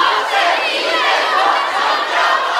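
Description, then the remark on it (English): A large crowd of young live-streaming hopefuls at a hotel in Yiwu, China, shouts "We are super live streamers" together in unison, a loud, dense and steady wall of chanting that holds at an even level throughout without pause. “We are super live streamers, they chant.”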